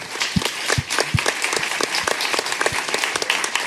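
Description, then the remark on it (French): An audience applauds the author Fibre Tigre steadily, dense overlapping claps filling the space at moderate volume, with a few louder hand claps standing out near the start. “Maintenant, on peut applaudir Fibre Tigre.”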